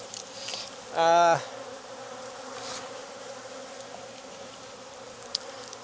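Honeybees buzz steadily around an open hive as a beekeeper moves the frames, a low continuous drone, with one bee's louder, higher-pitched buzz swelling for a moment early on before fading back into the hum.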